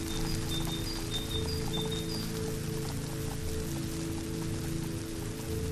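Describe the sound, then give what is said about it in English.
Steady, dense hiss of radio static caused by weather, running without a break, with a low droning hum underneath and a few faint high tones flickering in the first couple of seconds. “That's the noise you get with the weather. It's just a sort of shh, like so, and it's difficult to hear.”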